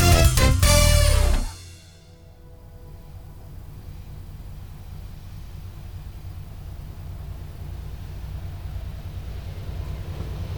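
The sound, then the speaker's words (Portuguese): A train passes, opening with a loud burst of rumbling, ringing noise that cuts off sharply, then a steady low rumble that carries on to the end. No one speaks. “Olha aí, mais um trenzinho. Esse trem é de fora, hein?”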